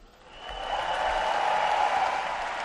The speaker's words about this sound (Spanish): Ovación de todo el Martín Carpena. Estamos a punto de vivir un momento único.